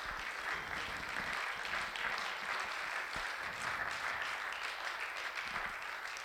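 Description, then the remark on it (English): An audience applauds the mothers present on a Mother's Day morning, a dense wash of many hands clapping at a constant level for several seconds, with no voices standing out. “Why don't we applaud our mothers here this morning?”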